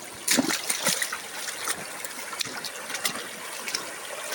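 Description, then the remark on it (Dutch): Meltwater from melting snow trickles and splashes steadily along a hiking path turned into a small stream, a continuous babbling flow with bright, irregular spatters and small splashes throughout, no voices present. “Allemaal van stukken pad zijn gewoon een riviertje.”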